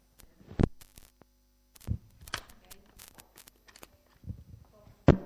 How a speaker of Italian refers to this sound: Qualcuno aveva attaccato il ventilatore. C'era il ventilatore al posto del microfono.